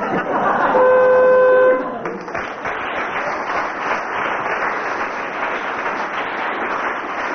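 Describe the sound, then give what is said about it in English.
A loud, flat game show buzzer signalling a contestant's disqualification blares for about a second in a steady harmonic drone, then cuts off into a sustained wash of audience applause and chatter. “It was the buzzer.”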